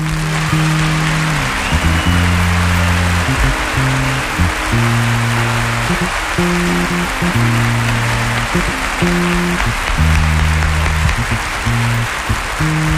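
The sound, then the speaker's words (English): A large audience at the Olympia in Paris applauds the orchestra in a dense, continuous roar of clapping, while sustained low musical notes from the band keep playing underneath throughout. “je voudrais bien que vous fassiez un grand applaudissement pour la belle orchestre de l'Olympia de Paris, que c'est magnifique, s'il vous plaît.”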